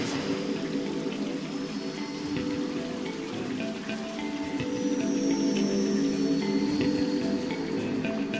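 A steady, unbroken rush of a waterfall pouring into the overflow pools beneath it, which it feeds, a dense splashing hiss that holds at an even, moderate loudness throughout, with no voices.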